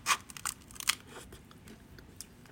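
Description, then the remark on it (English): Crisp crunching of someone biting into a baked snack, a few sharp crunches in the first second followed by quieter chewing crackles, no talking. “You hear the crunch? Listen.”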